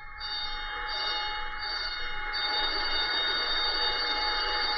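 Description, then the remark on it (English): A ship's abandon-ship alarm: bells and whistle sound together in a steady, loud, continuous ringing with a shrill tone, filling the whole stretch without pause and with no voices. The signal is seven short and one long on the bells and whistle. “The signal consists of seven short and one long on the bells and on the whistle.”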